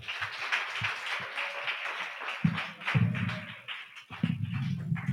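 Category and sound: crowd, audience clapping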